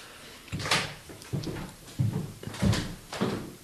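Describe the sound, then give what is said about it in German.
A drawer slides open, followed by a series of short scraping and rummaging knocks, about five bursts in uneven rhythm, as someone fetches incense from the drawer; no one speaking. “Hast du noch Räucherwerk, was wir aus der Schublade ziehen können?”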